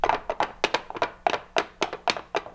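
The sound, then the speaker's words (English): Coconut shells clopped on a board to imitate horse hooves as a sound effect for a cowboy show: a steady trotting rhythm of hollow, woody knocks in quick pairs, fairly loud, with no voices. “Now, if you had a cowboy show, of course, you'd need the sound of horses' hooves, and that was a very simple matter of just taking some coconut shells and a board, and let me show you how that sounded.”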